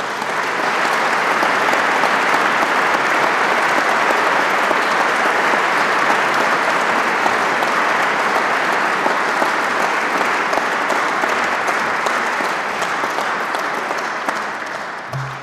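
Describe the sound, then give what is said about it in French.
Sustained applause from a large audience at an academy prize ceremony, as the prize winners are asked to stand. It is a dense, steady wash of clapping that holds at full strength for about fourteen seconds before starting to taper at the end. “Je demande aux lauréats de bien vouloir se lever et vous prie de les applaudir.”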